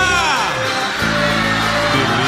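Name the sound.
crowd shouting and cheering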